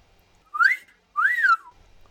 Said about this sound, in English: A loud wolf whistle interrupts this gratifying development. Clearly, Killy's finally emerged from his den and crept into the kitchen while they were otherwise occupied.